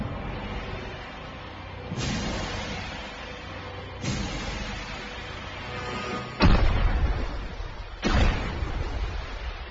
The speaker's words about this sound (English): Two explosions bearing 162.